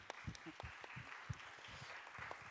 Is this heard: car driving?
no